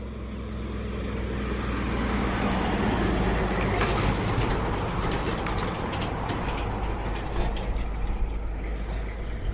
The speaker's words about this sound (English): we're about to be passed by a road train with some ore. And the road is actually only single lane tarmac, so you have to go out onto the dirt to get past. And then all the dust comes in.